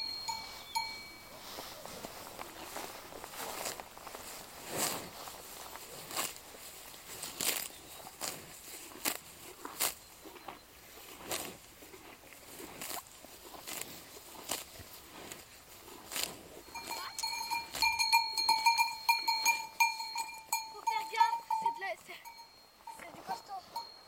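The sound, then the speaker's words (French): Cowbells clank irregularly from cows grazing in a pasture, scattered knocks over a quiet outdoor background, with a sustained ringing bell tone swelling near the end. “Et au moins, ces vaches, elles peuvent manger, brouter.”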